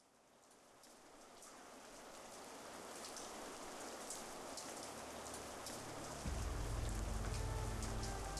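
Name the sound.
steady rain falling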